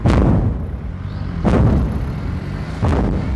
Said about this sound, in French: Bakhmout, le fracas des départs d'artillerie, mais aussi le sifflement et l'explosion des arrivées. Les Russes se rapprochent.